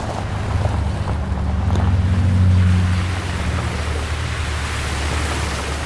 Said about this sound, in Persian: آقا داریم نزدیک رودخونه میشیم، دور بزنم؟ نه نه، از رودخونه رد شو برو اون بر. فرهاد آروم با ماشین میره تو رودخونه.